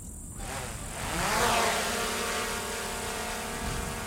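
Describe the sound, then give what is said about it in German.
The propellers of a drone from the USA buzz steadily in flight, a continuous whirring hum with a sweeping pitch as it passes, fairly loud and alone without any voices. “Und mit dem Erlös diese Drohne für knapp 30.000 Pesos”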